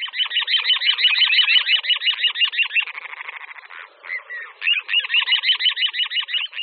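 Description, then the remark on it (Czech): Little ringed plover calling in a fast, insistent stream of high, rasping notes that blur into a rolling trill midway, then resume their rapid repeated pattern. No voices. “A nejspíš o kulíka říčního, který se u nás vyskytuje nejenom během tahu, ale také tu pravidelně hnízdí.”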